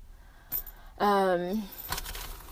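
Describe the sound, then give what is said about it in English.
Keys jangle and clink in short bursts as they are taken out to open a house, with a brief hummed vocal sound in the middle before the jingling picks up again. “So I need to get my keys out to open the house.”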